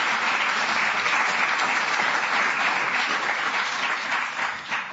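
A crowd claps steadily for about five seconds to welcome a guest forward, a dense, even wash of hand claps that holds at a constant loudness, then thins slightly at the very end. No one speaks.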